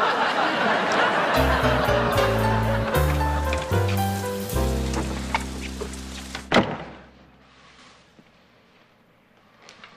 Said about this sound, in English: Oh, look, it's raining. Well, that's good for the garden, isn't it?